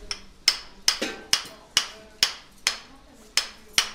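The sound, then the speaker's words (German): A surgical hammer strikes metal in a steady rhythm, about nine sharp, ringing blows roughly half a second apart, each with a bright metallic clang that quickly decays, as a new joint shaft is driven from above into the thigh bone during a joint replacement revision operation. No one speaks. “Er wird von oben in den Oberschenkelknochen getrieben. Und dazu brauchen wir auch wieder unseren Hammer.”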